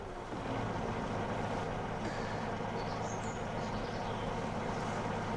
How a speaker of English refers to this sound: At the garage, Danny sits in a car and turns on the engine.